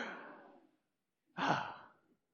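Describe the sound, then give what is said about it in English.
A group gasps together in a sudden, breathy rush that swells and fades over about a second, following the tail of an earlier, softer exhale. It is a planned unison gasp, given on cue during a Scripture reading after verse 5. No one speaks. “When I get finished with verse 5, which is right there, in case you can't see that, we do, we insert our gasp.”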